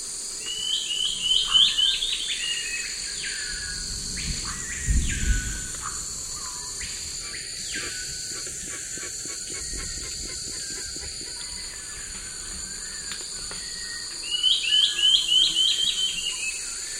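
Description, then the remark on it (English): Bicolored antbird calls, bright chirping phrases rising and falling, in two bursts near the start and end, heard together with a screaming piha and other birds, over a steady drone of insects and forest birds. “bicolored ant bird, one with screaming piha and others.”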